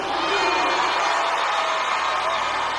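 A large audience shouts and cheers together in a continuous, loud roar during a Yoruba song, shouting 'Oluwa' (meaning Lord), with high-pitched voices rising over the dense crowd noise for the whole stretch.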